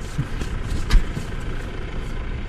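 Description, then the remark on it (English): A tractor engine rumbles steadily in rural fields near the small town of Feldkirchen, Germany, a low continuous drone with a brief knock partway through, heard outdoors with no voices. “A tractor engine and the occasional car are about all that disturb the bucolic landscape near the small town of Feldkirchen.”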